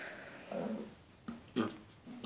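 A low, guttural burp rumbles out, followed by a few short, throaty belching bursts in an uneven rhythm, moderately loud with no talking.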